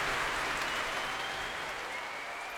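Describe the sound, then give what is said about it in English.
A large audience at the Royal Albert Hall applauds, stamps and cheers after a Prom concert, a dense, continuous wash of clapping and voices that holds steady for the whole stretch, with no one speaking. “A lot of stamping and cheering, but we must take our leave.”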